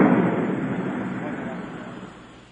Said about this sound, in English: Well, I heard the fireworks, but it sounded like there was an explosion.